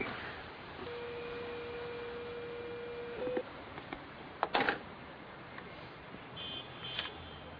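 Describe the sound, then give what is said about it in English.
A steady French telephone line tone hums for about two seconds, ending in a brief higher blip, followed by scattered clicks and a faint high beep over a low, narrow phone-line hiss. “Oh, God, this French phone is saying something that I don't...”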